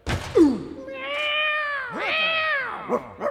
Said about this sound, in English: Then he vaults lightly through the opening and lands full bore on the sleeping cat's tail.